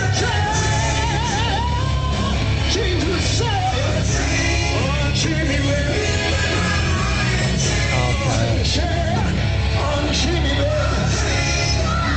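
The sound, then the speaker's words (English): A man screams and yells loudly and continuously for several seconds, his strained voice rising and falling over a dense, noisy background. “Well, you can scream. I think you ought to stick with the screaming.”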